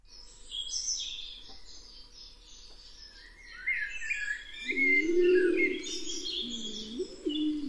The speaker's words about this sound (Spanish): Esta es la paloma, pero detrás tenemos a todos los mirlos, a unos pocos de los mirlos de La Gomera, desplegando sus dotes vocales.